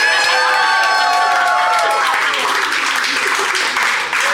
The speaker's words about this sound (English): Listen to that crowd going wild.